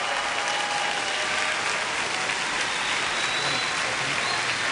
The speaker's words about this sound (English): Give Dr. Savelle a hand clap. Come on. Give him a good one. Hallelujah.